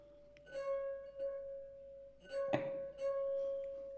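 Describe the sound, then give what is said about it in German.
A glass filled with water a little more than half full is tapped lightly several times, each strike sustaining a clear, fairly low ringing tone that hums steadily throughout, with one sharper, louder clink near the middle. “Das noch ein bisschen voller”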